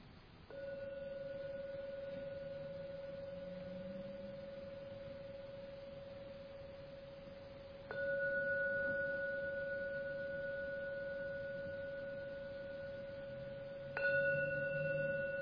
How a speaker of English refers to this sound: Now I'm going to ring the gong 3 times. Please wait until the 3rd ringing of the gong fades away, and then open your eyes.